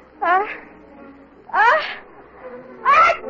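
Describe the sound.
Three loud sneezes in a row, each a sharp voiced burst about a second and a half apart, with faint background murmur between them.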